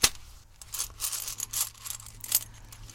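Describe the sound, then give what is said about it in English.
A bag of large silver and solid gold ancient coins is set down and opened, and the coins clink and jingle in a series of bright, irregular metallic taps, fairly quiet, over a low steady hum with no talking. “The camel driver opened the bag of coins.”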